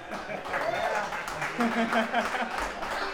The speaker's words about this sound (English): Thanks a lot, guys. Well, the applause is about the same.